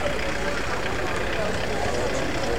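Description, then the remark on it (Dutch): A car engine idles at an intersection with a steady, continuous rumble amid dense outdoor street noise, with indistinct voices murmuring in the background. “Een automobilist. Moet ik doorrijden? Rot op met die auto, man.”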